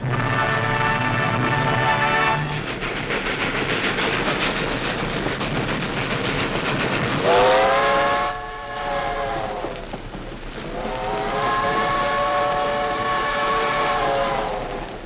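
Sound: train passing with whistle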